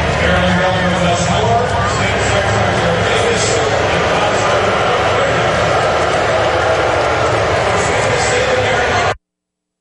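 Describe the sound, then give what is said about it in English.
A large crowd boos loudly and steadily for about nine seconds as Governor Westmore and comptroller Brooke Learman are introduced, a dense roar of jeering voices with some scattered applause mixed in, ending abruptly. Captured by Fox 45. “Much more boos than applause.”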